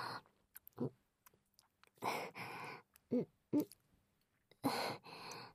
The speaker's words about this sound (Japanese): チュパチュパして、赤ちゃんじゃないんだから。